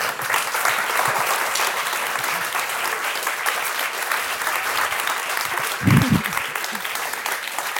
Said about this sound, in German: Ihnen danke ich fürs Klatschen und für Ihre Aufmerksamkeit.